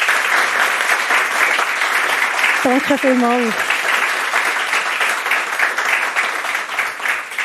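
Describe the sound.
Steady audience applause at the SHL welcoming a guest, a dense wash of many hands clapping at a loud, even level, with a brief spoken thank-you rising over it partway through.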